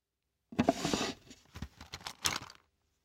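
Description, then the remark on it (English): Someone pulls a pencil case out, with about two seconds of brisk rustling and crinkling followed by a few lighter scrapes and clicks, and no voices. “Take out your pencil case.”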